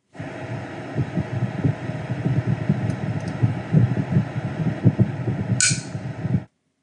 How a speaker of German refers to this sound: Tja, das war wohl das Herzklopfen desjenigen, der das aufgenommen hat. Ansonsten war das das Öffnen einer Bierdose. Oder vielleicht war es auch ein Energydrink, das deswegen solches Herzklopfen war.